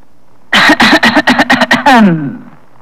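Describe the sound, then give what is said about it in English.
A loud throat clearing, done as a demonstration of a way to get an audience's attention: a rapid string of about eight rough, gravelly bursts ending in a drawn-out, falling voiced rasp, with no other sound around it. “Would you clear your throat like this?”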